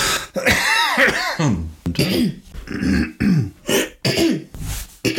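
A person clears their throat several times in a row, fairly loud, with rough guttural bursts and short pauses between them, interspersed with vocal sounds.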